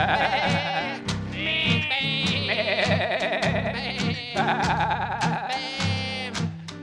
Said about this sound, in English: I got sheep.